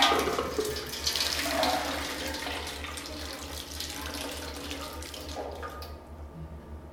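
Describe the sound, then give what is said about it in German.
Nearly 3 liters of water pour steadily out of a container with a continuous splashing rush that lasts several seconds before tapering off, over a low background hum. “Es sind fast 3 Liter drin, oder? Du spürst es und ich leere es aus.”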